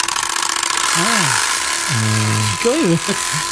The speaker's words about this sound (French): c'est un pot d'échappement en plastique qui vient se fixer sur la roue arrière de ton vélo